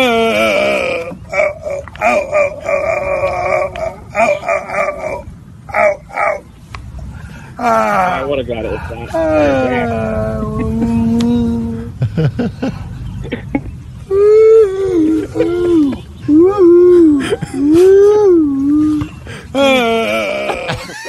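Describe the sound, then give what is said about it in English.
A drunk man grunts, groans and moans loudly and continuously, with strained, wavering vocal sounds rising and falling, no words spoken. “That was a drunk person, but let me play it back for you.”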